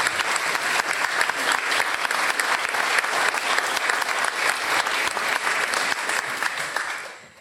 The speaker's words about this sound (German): Vielen Dank an alle, die diesen besonderen Gottesdienst vorbereitet und gestaltet haben. Ich glaube, das ist einen dollen Applaus für alle wert.